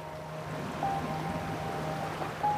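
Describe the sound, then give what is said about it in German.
Steady sea water washing and lapping at moderate level, with a constant low boat-engine hum beneath and faint thin whistling tones drifting in and out; no voices. “Und während du deinen Blick über das unendliche Blau schweifen lässt”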